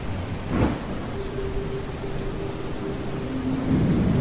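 Heavy rain hisses steadily while low thunder rumbles and swells during a storm at sea with swelling ocean waves and flashing lightning, with a brief sharp crack early on and a faint sustained tone humming through the storm noise.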